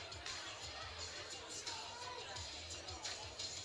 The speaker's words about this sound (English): As we wait for the Hornets to break their huddle. It's a great crowd on hand tonight